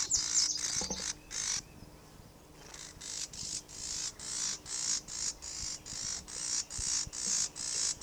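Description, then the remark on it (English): A bird, one of a pair interacting near a nest, gives a steady series of harsh, buzzing calls, about two per second, clear over a quiet outdoor background, with a brief pause early on and no talking. “That could be the female that's buzzing.”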